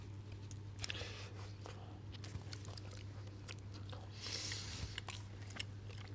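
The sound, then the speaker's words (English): Wet chewing with irregular crunchy bites, someone eating cheap supermarket blue cheese on sliced bread, over a steady low hum, with no talking. “Sound of chewing always makes for a good podcast item.”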